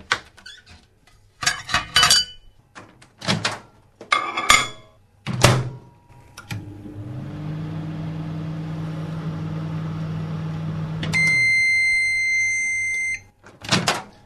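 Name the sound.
microwave oven running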